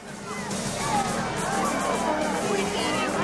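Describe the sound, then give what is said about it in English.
A dense crowd of spectators murmurs and chatters all at once as they pour from the stands after a cadet ceremony. It is a steady wash of overlapping voices with no single speaker standing out, as if many people are milling about outdoors in sunshine. “searching the crowd of spectators as they pour from the stands.”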